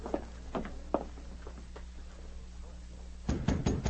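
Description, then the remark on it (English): Knocking on a wooden cabin door at dawn: three sharp, evenly spaced raps, then a couple of fainter taps over a low hum, before a louder, busier burst of sound at the end. “It was dawn of the following day when Glenn White got up to answer a knock on the cabin door.”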